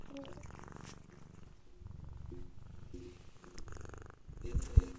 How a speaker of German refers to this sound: Hallo, schnurrt bei dir gerade eine Katze? Yes. Ja! Oh, Entschuldigung. Ich höre es. Ich war erst so, ist es wieder ein Flugzeug im Hintergrund? No. Nein, es ist eine Katze, die ins Mikro schnarrt.